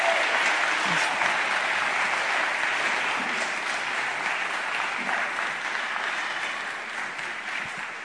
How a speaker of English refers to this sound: Can you give them an applause once again?